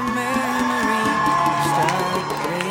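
A live crowd at Puy Live cheers and claps together, a dense, steady wash of whoops and shouting voices over scattered applause, fairly loud and sustained for a few seconds, voting by applause to hear only the English version.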